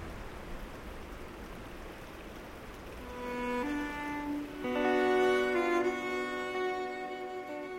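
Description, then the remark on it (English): Horse Creek, about a mile away, rushes in a soft, steady wash, heard in deep quiet on a mountain. After a few seconds, sustained musical tones fade in and swell over the flowing water. “It's so quiet we can hear Horse Creek a mile away.”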